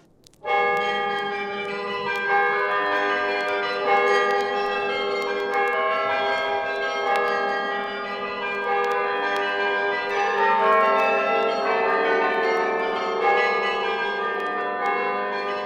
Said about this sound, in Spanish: Y lo que escuchamos no son precisamente las campanas de catedral, sino conciertos de carrillón que fueron grabados precisamente en las épocas de los años 50